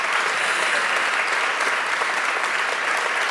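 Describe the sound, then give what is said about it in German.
A crowd claps steadily, a dense, even patter of many hands at constant loudness for a few seconds, with no voices on top. “Also die wunderbar, ihr Applaus.”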